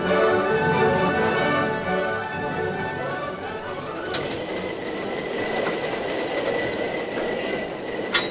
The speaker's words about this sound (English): Inside the cab of the engine, the Lone Ranger, deserted by the fireman and the engineer, worked frantically to bring the fast-moving train to a stop before it reached the river and plunged into the void where the bridge had been.